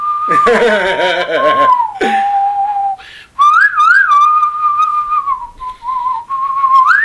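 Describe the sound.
A loud whistled rendition of the theme from The Good, the Bad and the Ugly, in spaghetti western style: long held notes with sliding pitch and brief pauses, opening with a richer, buzzier burst before the pure whistle continues alone.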